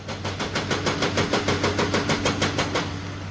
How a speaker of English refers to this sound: A yellow backhoe knocks rocks from a mountainside as another construction vehicle drills through rock along Route 52 in Elkhorn. Work began in late June to replace the Elkhorn and Mayberry water systems.